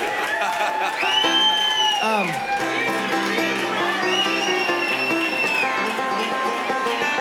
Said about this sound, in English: You're just cheering because you saw us play that on TV, you know? It's okay, but I'll still take the applause.